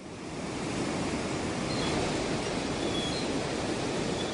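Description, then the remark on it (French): A barge passes through the Bougival lock on the Île de la Loge as the lock chamber gates open, heard as a steady, dense rush of churning water that swells in over the first half second and then holds a constant roar, with no voices. “Une péniche est en train de passer l'écluse de Bougival.”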